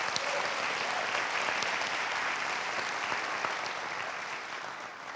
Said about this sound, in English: Give the Lord a hand clap of praise if you would.